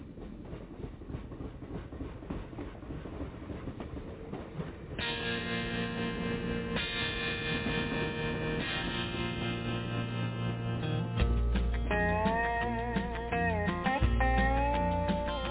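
A recorded song opens with a rumbling, clattering train effect, then sustained instrumental chords swell in, and a low, deep male bass voice begins singing over the music near the end.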